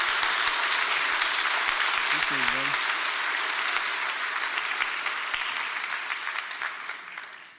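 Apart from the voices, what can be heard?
audience round of applause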